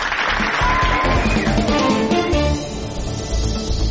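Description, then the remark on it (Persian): Steady, dense applause with clapping runs unbroken for the whole stretch, with what sounds like music mixed in underneath, as the weekly Golden Egg press award is given to Rouzan newspaper. It stays loud throughout and dips only slightly near the middle. “بله، تشویق بفرمایید.”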